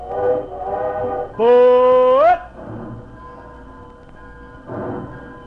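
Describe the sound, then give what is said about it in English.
A train pulling out: a loud, reedy whistle blast slides upward in pitch for about a second, framed by softer, uneven chugging before and after. “Train pulled out and Josh followed it down the tracks.”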